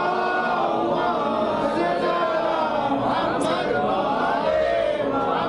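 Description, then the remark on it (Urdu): A large crowd chants salawat together in one loud, sustained swell of many overlapping voices, steady throughout with a continuous dense murmur of group recitation. “بارے دیگر نعرے صلوات.”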